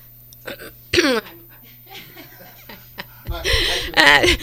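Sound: throat clearing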